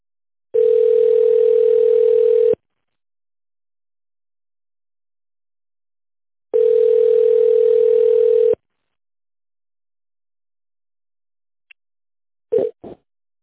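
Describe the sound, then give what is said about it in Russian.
A telephone ringback tone, heard while calling an office line and waiting for the secretary to answer, sounds twice, each a steady mid-pitched buzz lasting about two seconds with a long silent gap between, followed by a few faint clicks at the end. “Сейчас звоню вот этот раз и все как раз.”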